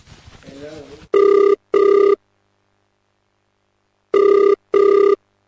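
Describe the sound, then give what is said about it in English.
A phone's outgoing ringback tone at 1:30 in the morning sounds in two loud double-pulse bursts, separated by a long silent pause, just after a brief moment of someone talking. “Wait, let me phone Yusuf.”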